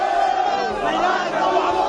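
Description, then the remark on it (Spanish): The Huesca football team shouts together in a huddle in a dense, steady chant, the men's voices blending into one loud, continuous roar that barely dips over two seconds. “Esto es lo que grita el Huesca haciendo piña.”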